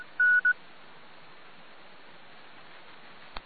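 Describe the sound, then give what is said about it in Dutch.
Two quick telephone keypad tones beep near the start, one slightly longer than the other, followed by steady background hiss and a faint click at the end. No one speaks. “Goed, telefoon.”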